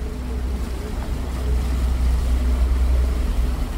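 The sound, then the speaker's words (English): Boat engines rumble steadily on the Grand Canal in Venice, Italy, over the wash of moving water, a constant low drone with a faint hum on top, unbroken throughout, with no voices. “The Grand Canal in Venice is an awe-inspiring sight”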